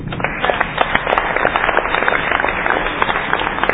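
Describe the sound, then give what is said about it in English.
A crowd applauds steadily for a few seconds, dense overlapping claps forming a continuous bright patter at a moderate, even loudness with no voices. “I think we should clap it up.”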